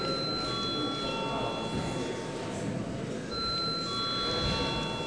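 A parliament chamber's voting bell rings steadily for about five seconds before a vote on a bill amending the advertising law in its second reading, a sustained bright electric tone over a constant low murmur of voices and shuffling.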